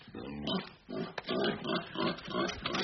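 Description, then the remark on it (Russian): A pig in a house grunts steadily while eating a wig, a series of short, rough snorting grunts coming in quick, uneven bursts with no one speaking. “Грязная свинья, она воняет.”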